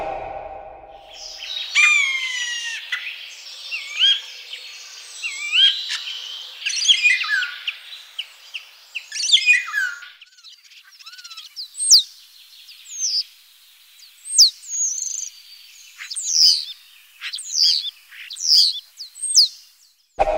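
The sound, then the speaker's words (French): A starling sings alone, pouring out a dense, varied medley of whistles, clicks and rattling chatter, then shifting to a run of sharp, rising whistled notes repeated in quick succession. “Vous parliez des oiseaux, en particulier chez les étourneaux.”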